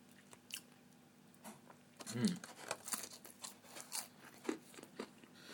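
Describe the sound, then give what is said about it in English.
Crunchy munching on a crisp onion snack, with repeated bites and chews in an irregular rhythm, some louder crackly crunches standing out over a quiet room hum. “So I'm going to munch away on these, and then I'll be back for mains.”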